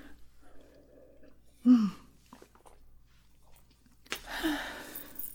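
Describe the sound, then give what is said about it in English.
A short, quiet slurp and swallow as a speaker drinks a sip of water, followed a couple of seconds later by a soft, breathy exhale, with faint murmuring in the background. “I'm gonna need another drink of water.”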